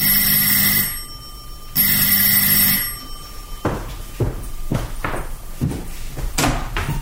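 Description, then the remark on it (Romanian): A doorbell rings insistently in two long, loud, buzzing bursts, then a series of clunks and thuds follows, like a door being unlatched and opened. No one speaks. “Într-o sâmbătă dimineața, în timp ce îmi făceam micile treburi gospodărești, cineva a sunat energic la ușă.”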